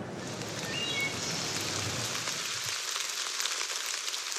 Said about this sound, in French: Il pleut tellement, et depuis tant de temps. Des averses irréversibles qui semblent surgir de partout, la nuit comme le jour.